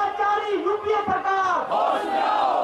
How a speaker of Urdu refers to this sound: ایسے وقت میں جب دہلی کا درجہ حرارت 45 ڈگری سیلسیس کے آس پاس چل رہا ہے, حزب اختلاف بی جے پی کے لیڈروں اور سینکڑوں کارکنوں نے سخت حفاظتی اقدامات کے تحت دہلی کے جنتر منتر پر بڑھتی مہنگائی اور بدعنوانی کے خلاف دھرنا دیا اور حکومت مخالف نعرے لگائے.